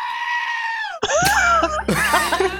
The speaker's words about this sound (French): Ah, c'est une chèvre, hein.